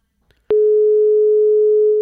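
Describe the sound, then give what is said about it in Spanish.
A telephone busy tone on a failed attempt to reconnect a dropped call cuts in abruptly after a faint click and holds as one loud, steady electronic beep, with no voices present. “No, bueno, no lo tenemos al teléfono. Vamos a intentar recuperar la... Vamos a intentar recuperar las dos llamadas.”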